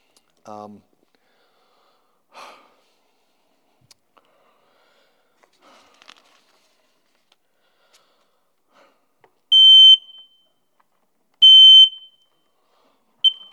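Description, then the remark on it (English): A household smoke alarm beeps loudly with piercing high-pitched tones, three evenly spaced beeps near the end, preceded by a few brief, faint vocal sounds and quiet stretches. “This is my smoke alarm.”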